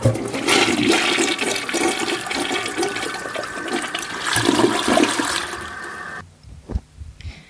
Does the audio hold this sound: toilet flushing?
yes